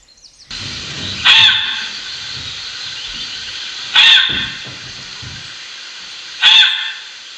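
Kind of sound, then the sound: animal, fox call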